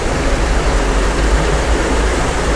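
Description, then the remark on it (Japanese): The Inugami River, a river flowing into Lake Biwa in Japan, rushes loudly and steadily, a dense, continuous roar of water filling the whole clip without pause, with no voices over it. “久しぶりに来てみたんですけれども、相変わらず水が高校と流れていますね。”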